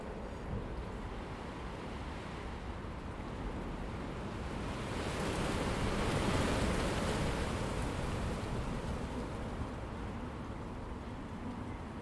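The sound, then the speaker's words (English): Steady, blustery wind and driving rain with a constant hiss, swelling to a louder gust in the middle before easing back, heard one miserable morning from round the corner of a house below the soffit. It fills the whole recording, with no voices. “Well, this morning I'm hiding round the corner of the house, below the soffit, out of this miserable, terrible morning, driving, wind and rain.”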